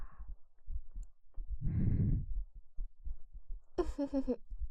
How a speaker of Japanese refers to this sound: 私たちの心音が聞こえますか？